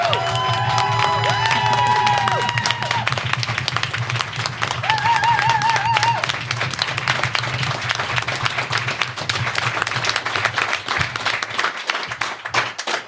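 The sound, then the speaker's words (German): A live audience bursts into loud, sustained applause with cheers and whistles rising above the dense clapping, filling the room for over ten seconds. “Deswegen auch für dich würde ich sagen, nochmal einen dicken, fetten Applaus von allen, die hier sind, für dieses Podcast-Projekt.”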